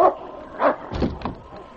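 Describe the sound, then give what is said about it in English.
A dog, King, barks urgently at the door of a lodge in four short, insistent bursts over a couple of seconds, one bark landing with a heavier, deeper thud, and no voices around it. “King threw himself against the door of the lodge, barking a demand for the sergeant's attention.”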